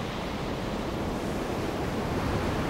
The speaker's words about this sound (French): Le vent souffle.